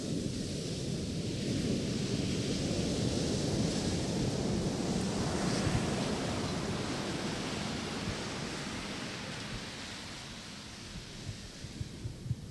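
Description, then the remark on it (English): Ocean waves break on a beach in a steady, continuous roar of surf with broad rushing noise and gentle swells in volume, moderately loud, with no voices. “The ocean is coming.”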